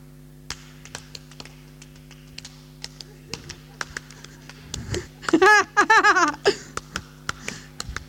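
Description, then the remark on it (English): Sharp, crisp hand claps tap out a steady rhythm, with a brief voiced, laughing sound breaking in partway through before the clapping carries on. “What rhythm shall we clap”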